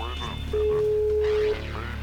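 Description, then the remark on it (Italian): A single steady ringback tone hums for about a second on an outgoing phone call, fairly loud, with faint background murmur underneath before and after. “Squilla.”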